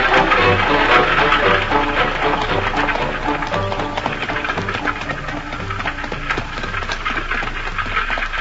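horse-drawn carriage hooves clip-clopping

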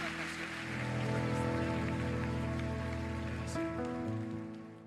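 loud applause

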